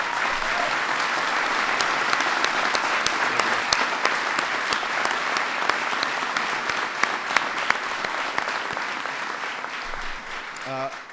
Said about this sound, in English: And so give Kimo a big round of applause.